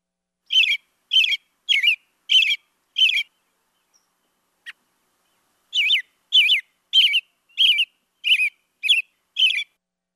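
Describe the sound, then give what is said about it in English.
An American robin sings clear, warbling caroling phrases, five in a row, a brief pause, then seven more, fairly loud with no other sounds around. “And let's listen next to a robin, which is certainly one that we often see and probably hear around us.”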